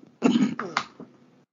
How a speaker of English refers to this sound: I feel like I'm coughing up a storm. We gotta start finishing this up. I got no voice left.